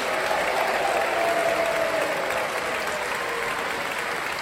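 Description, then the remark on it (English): A crowd claps loudly and steadily for the performers, the dense applause mixed with cheering and a rising whoop that stands out above it, keeping a constant level for several seconds. “Can we require a big cheer, please?”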